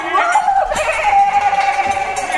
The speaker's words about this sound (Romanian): Da, asta ce-i? A? A, e oaie.